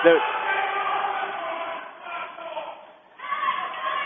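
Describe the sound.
A crowd shouts and yells together at a basketball game while a player is on the floor in pain, a dense, steady roar of many voices that briefly thins out near the end before swelling loudly again.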